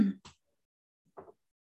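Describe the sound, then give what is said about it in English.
A couple of short coughs from a person in a Zoom meeting, a quick pair of rough bursts at the start, then a pause before a softer throat-clearing rasp, with no talking. “I've started coughing now.”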